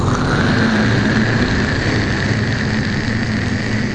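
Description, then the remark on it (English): A loud, steady roar of a spaceship's stage 2 engines firing: broad hissing noise over a low droning rumble, holding constant for the whole four seconds with no voices. “I want you to prepare to fire stage 2 engines.”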